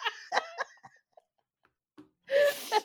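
Broken, giggly vocal bursts fade to near silence, then a sudden loud, breathy yawn with a strained voiced tone bursts out and cuts off after about half a second.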